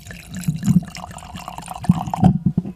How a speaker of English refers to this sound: Here's what we're pouring now is Domaine du Castel. I brought three wines, kind of like a first course wine, a main course wine, and a dessert wine. And this Domaine du Castel is considered by many to be the premier wine from Israel.